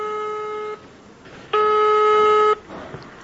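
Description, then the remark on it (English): A cell phone ringback tone purrs twice as a call is placed to a farmer, each long electronic burst separated by a short pause, steady and fairly loud against faint background noise, with no one speaking. “I decided to reach her via my cell phone.”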